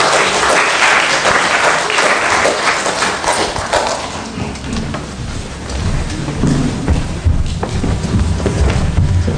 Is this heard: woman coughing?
no